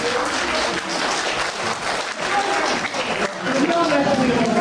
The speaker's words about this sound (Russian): И хотим, чтобы вы сейчас бурными аплодисментами поздравили ее с рождением сына.